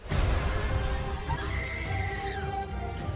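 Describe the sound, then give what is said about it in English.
Heavy hooves pound steadily on a roof in a dense, rumbling clatter, with a high animal cry like a horse's whinny rising over them midway. No one speaks. “Those are hooves.”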